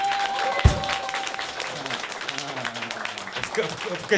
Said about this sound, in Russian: Мне громче, Хлопали. Тебе, конечно, громче.